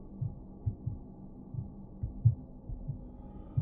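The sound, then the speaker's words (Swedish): A muffled, low heartbeat heard in the ears thumps steadily in deep paired beats, slowly fading, over a faint background hum with no voices. “Du hör fortfarande hjärtslagen i dina öron, men de försvinner långsamt.”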